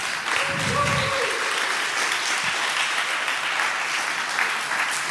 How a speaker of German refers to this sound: Auch einen großen Applaus für die Jungs und dreht euch dabei bitte um.